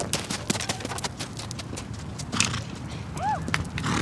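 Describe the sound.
Horse hooves clop in an uneven, steady patter across the ground as riders play a game like hockey on horseback, and a short high whinny rises near the end, with faint voices murmuring in the background.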